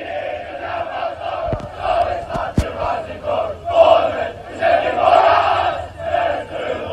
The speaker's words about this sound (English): Students from both schools made their support heard and doing their best to get their side the victory, with loud chants being heard from well before kickoff all the way until the final whistle.